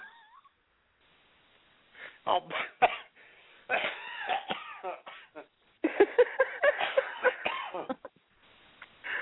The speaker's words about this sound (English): Oh, there goes the long cough. The long laugh.